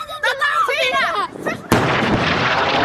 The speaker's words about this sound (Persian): همراه با صدای انفجار و تلاش ها برای یافتن نجات یافتگان احتمالی از زیر آوارها. برای 9 روز پیاپی حملات هوایی بیوقفه اسرائیل به باریکه غزه ادامه دارد.